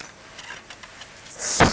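A toy trolley is kicked near the end, giving a sudden loud clattering knock with a brief rattle, after a stretch of quiet handling noises. No one speaks.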